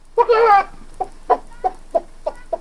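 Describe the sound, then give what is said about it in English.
A man's voice imitates a clucking chicken: one drawn-out squawk, then five short, evenly spaced clucks, close and fairly loud, with no other sounds. “The dumb stableman role was the robber with the fox-like grin's father, who had an excellent chicken imitation, because it turned out that he was the one laying the golden egg.”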